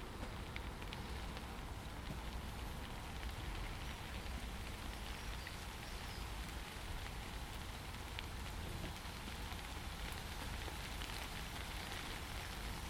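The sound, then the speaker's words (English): Steady, dense rain patters on hard surfaces, a continuous hiss with countless small droplet ticks and no gaps, at an even moderate level throughout. “Nice standing here though, undercover, listening to all that lovely rain.”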